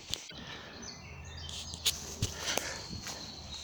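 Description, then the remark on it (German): Footsteps crunch at a steady walking pace along a woodland path through deciduous-tree avenues and small patches of woods, with horse paddocks on both sides, and faint birdsong in the quiet outdoor background. “Jetzt laufe ich hier durch so Laubwaldalleen und kleine Waldstückchen.”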